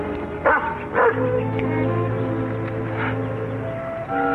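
dog barking and yipping

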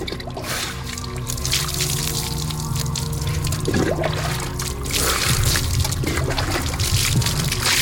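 hot water poured

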